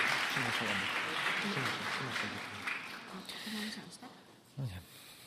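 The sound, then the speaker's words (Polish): A crowd claps steadily throughout for men called up onto the stage, a dense rattling applause that fades slightly toward the end, while a man's voice speaks loudly over it. “Brawa dla naszych odważnych panów.”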